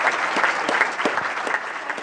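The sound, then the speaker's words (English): An audience at the Denina Center applauds a panel after a discussion on the business of news, a dense wash of many hands clapping at an even, fairly loud level, with individual claps popping out now and then. No one speaks over it. “Let's give a round of applause for our panel.”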